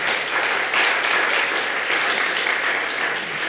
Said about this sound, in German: Mich hat das total ermutigt. Ihr dürft ruhig klatschen zwischendurch.